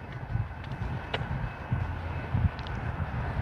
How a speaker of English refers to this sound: I hear a train. Hear it? When is the Metro Rail running? Yeah, I guess it's the Metro Rail. Metro Rail running on Christmas Day?